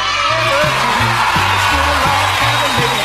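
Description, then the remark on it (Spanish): A family group lets out a loud, sustained celebratory birthday shout, the voices blending into a dense roar, with a steady low rhythmic thump running underneath. “¡El grito, familia! ¡El grito, el grito!”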